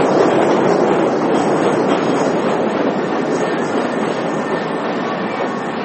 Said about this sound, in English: There's a train.